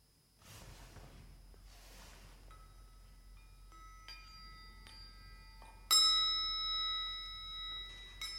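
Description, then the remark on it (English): Chimes played by a child to end a period of silence ring out one after another, their bright metallic tones layering and lingering, with a louder cluster struck near the end that rings on and slowly fades. “will play the chimes to end the silence.”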